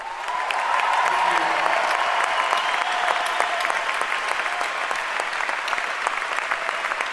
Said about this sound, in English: There's a decent number of kids out here tonight, too, so they should also just get a huge round of applause.